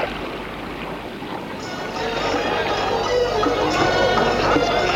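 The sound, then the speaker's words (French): A boat arriving at Abidjan churns steadily through water, a continuous rush and splash over a low engine drone, growing a little louder and fuller partway through. “Et le bateau arrive à Abidjan.”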